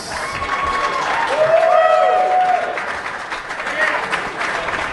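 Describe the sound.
A crowd applauds steadily for several seconds, a dense wash of clapping with a few sharp whistles and cheering voices rising through it.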